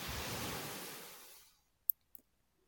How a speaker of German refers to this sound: Vor dir brechen die Wellen ganz kraftvoll und unaufhaltsam.